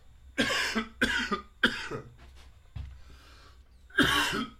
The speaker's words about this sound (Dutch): even hoesten.